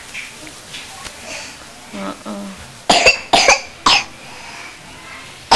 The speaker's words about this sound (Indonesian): Kalau batuk.